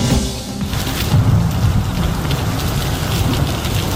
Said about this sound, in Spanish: Así se ha hecho sentir en la provincia de Alicante la nueva dana que ha atravesado España con granizo de hasta 2 centímetros de diámetro, lluvias torrenciales, carreteras cortadas en Orihuela